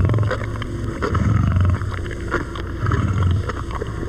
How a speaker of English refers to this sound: And this is what Dad sounds like. A grown male Maasai lion growls over his daily meal, a 15-pound chunk of raw meat. Listen closely and you can hear his huge teeth ripping through the meat.